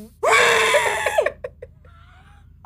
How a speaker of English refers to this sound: Ang labo kung the host just screams.